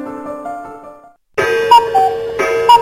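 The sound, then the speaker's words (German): A cuckoo clock calls, repeating its two-note cuckoo over a dense, ringing mechanical background that starts abruptly after a held tone and a moment of silence. “Kuckucksuhr. Er ruft zu jeder vollen Stunde, erscheint in keiner Vogelkunde, er hält sich tapfer mit Bravour, der Kuckuck in der Kuckucksuhr.”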